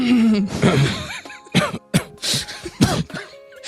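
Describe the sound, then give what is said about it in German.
A person clears their throat and coughs several times into the microphone, in loud, irregular bursts with brief gaps between them, and nobody speaks. “Man sollte auch nicht so ins Mikrofon räuspern wahrscheinlich, ne?”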